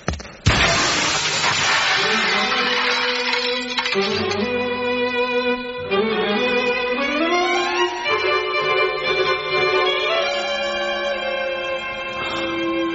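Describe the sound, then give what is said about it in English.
A man smashes through double glass doors at an alley exit with one loud crash of shattering glass at the start, quickly giving way to sustained dramatic music that swells and shifts. “He inches closer to the alley exit of the double glass doors. He turns his body sideways. He hunches his shoulders and”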